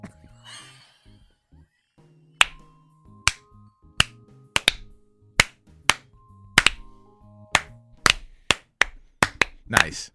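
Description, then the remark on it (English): An audience performs a clapping cheer: a series of sharp claps in an uneven rhythmic pattern, about a dozen crisp hits spread across the stretch with faint murmuring voices underneath. “That's part of the clapping cheer.”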